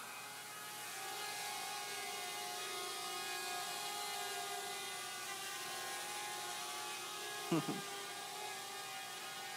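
A steady, multi-toned mechanical whine hums continuously from the spinning rotors of an M200 drone, with a brief clunk near the end; the drone streams video back to a laptop running IoT Edge and an AI model; no clear talk is present.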